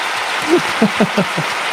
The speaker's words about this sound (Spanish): Aplauso para la ruina de Andrés Faingo, por favor.